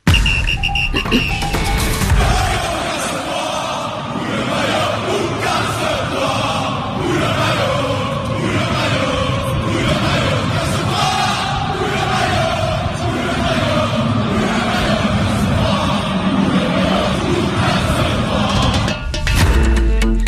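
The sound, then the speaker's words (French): A loud, dense crowd of football fans shouts and chants angrily, voices bellowing and overlapping in a continuous roar, with occasional sharp bangs and crashes cutting through. “Oui, le maillot, casse-toi, des cris, des chants pour exprimer leur colère.”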